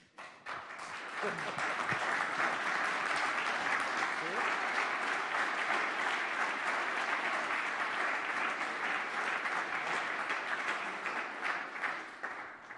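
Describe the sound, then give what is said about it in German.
A large audience at the Big Brother Awards, with people also standing along the side walls, breaks into loud, sustained applause, a dense wash of many hands clapping at once that holds steady for over ten seconds before starting to thin out. “Der Applaus ist natürlich schön.”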